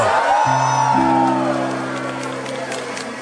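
A large crowd at a 2019 Christmas tree lighting lets out a rising collective "whoa" of amazement as the switch is flipped and the lights of the building and the tree come on, swelling into cheering and scattered whoops, while low sustained musical tones hum steadily underneath.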